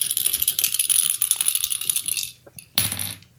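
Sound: dice being rolled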